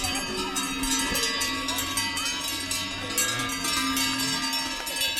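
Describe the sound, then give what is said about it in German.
Many cowbells from a grazing herd of 58 cows on pasture clank and jingle continuously and overlapping, with no steady rhythm, over a low rustling background; a faint voice murmurs now and then. “Alle 58 Kühe sind unterdessen auf der Weide.”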